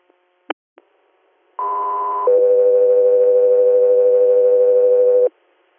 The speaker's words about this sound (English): Guthrie Air, stand by for tones.